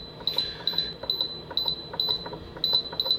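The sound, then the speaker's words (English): A pressure cooker's control panel gives a rapid series of high, electronic double beeps, each pair quickly followed by another in a steady pattern, clear over faint room noise. The beeps come as buttons are pressed in manual mode and the time setting wraps around. “You notice how it just beeped right there? Yeah. It beeped twice.”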